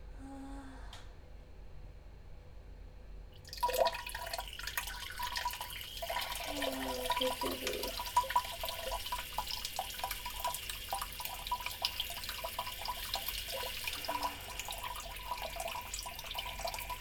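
After a few seconds of near silence, a steady stream of urine splashes into toilet water, a continuous hissing trickle at moderate level that runs unbroken to the end.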